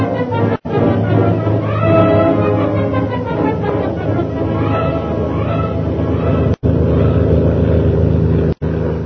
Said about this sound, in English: Meanwhile, Shanghai Lil's plane carrying Jim and Kolo roars on along the China coast.